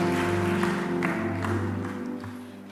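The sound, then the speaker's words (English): A church audience claps a clap offering to the Lord in a steady, sustained wash of applause while held keyboard chords ring underneath, fading slightly toward the end. “Give the Lord a clap offering and take your seat.”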